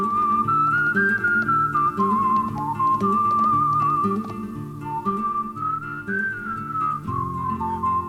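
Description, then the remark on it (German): A clear, steady whistled melody, newly written for the arrangement, glides over a full instrumental backing track, the pure tone sitting prominently above sustained chords and a steady rhythmic accompaniment, with no voices. “Er schrieb eine neue Melodie. Sie wurde gepfiffen.”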